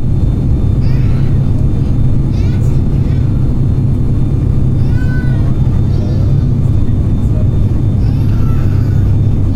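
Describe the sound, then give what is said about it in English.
Steady, heavy low roar of airplane cabin noise, recorded by Bose engineers on an actual plane, fills the whole recording, while a baby's high, wailing cries break through in several separate bursts above it. “Here's an actual recording that Bose engineers made on an actual plane.”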